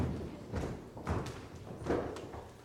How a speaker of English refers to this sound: Martha sighed, stomped her feet angrily, and stamped out of the kitchen